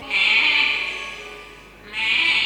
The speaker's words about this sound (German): Eines Morgens, als die Sonne schon hoch am Himmel stand, vernahm Robinson noch im Halbschlaf ein etwas ungewöhnliches Meckern und begann zu horchen.